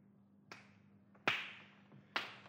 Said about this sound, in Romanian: Ia te uite! Un bulgăre de argilă cât o portocală! Da. Curios, sună ceva înăuntru. O adevărată pușculiță, Matachit! Da, tăicuțule. Matachit, adu un ciocan să spargem bușgulița, să vedem cine este în ea. Așa, ia, dă-mi ciocanul.